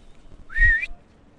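A single short human whistle, a bright rising note held for about half a second, clear over a faint low rumble of open-air background, echoing outdoors.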